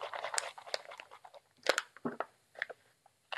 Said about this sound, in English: All I do is pour about 5 ounces of water in there. Then you zip the bag closed tightly and then shake.